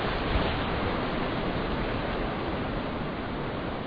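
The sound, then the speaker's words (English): A steady, continuous rush of water as waves wash out over beach sand on an island, filling the whole stretch at an even, moderate level with no voices. “Water goes out, takes the sand with it, and you sink.”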